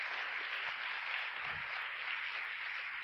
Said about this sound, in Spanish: ¿Cuántos aplaudimos de vuelta al Señor por eso? ¡Aleluya!